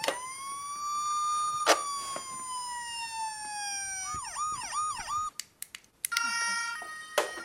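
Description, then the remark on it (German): A Playmobil toy police station siren sounds, a steady electronic wail shifting into a rapid warbling yelp, with a few clicks as the sound mode switches before another tone plays. “Hier ist mal eine coole Playmobil-Polizeistation.”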